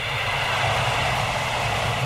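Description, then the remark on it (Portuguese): A steady, rushing wind blows continuously with a deep low rumble beneath a broad airy hiss, holding an even, fairly loud level throughout with no voices. “Do vento.”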